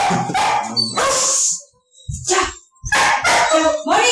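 Dogs bark loudly and close by, several sharp, excited barks coming in quick bursts separated by short pauses.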